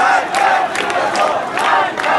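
A large crowd of demonstrators in the streets of Iranian cities shouting and chanting against the government, a dense, loud roar of many voices with rising bursts of yelling, sustained throughout with no single speaker standing out.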